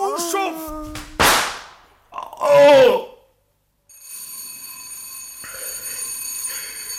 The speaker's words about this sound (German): Ja, Sie haben geläutet, Sir.